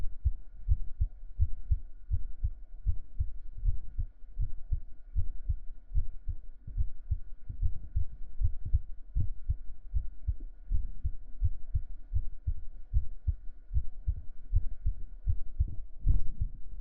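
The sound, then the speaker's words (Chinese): A fast, steady heartbeat, heard with an ear pressed against a person's chest, thumps muffled, its low pulses repeating rapidly and evenly throughout, with a faint hum underneath and no voices. “我的心跳很快。”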